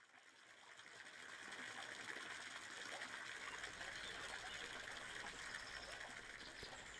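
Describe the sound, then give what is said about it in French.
Steady rushing of flowing river water, a dense continuous wash that swells slightly in the first second then holds even, with no voices. “C'est le long d'une rivière que se passe l'aventure de ce jour.”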